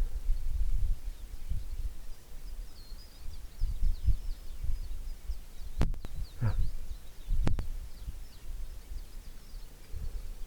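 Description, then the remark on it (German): Wild canaries, sparrow-like birds hidden in large pine trees, twitter in a steady, busy chatter, partly masked by low wind rumble and a couple of sharp handling clicks; a voice murmurs briefly. “Ja, das sind Kanarienvögel und die sind ja nicht so gelb oder orange wie die gezüchteten, sondern die sehen aus wie Spatzen.”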